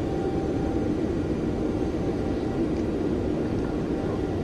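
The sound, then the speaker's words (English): A steady, droning simulated airplane engine in Flight Sim, using a sound set from Skysong Soundworks, hums continuously at moderate loudness, a broad rumbling roar with a faint tonal whine riding on top and no pauses or changes. “That plane sounds cool.”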